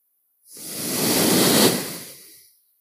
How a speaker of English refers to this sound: You have your right hand sitting, you know, the fist on your right knee, and you breathe out. Breathing in through both nostrils.